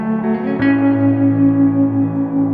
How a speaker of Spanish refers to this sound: Pero antes de continuar con este tema de la batalla de Armagedón, escuchemos una canción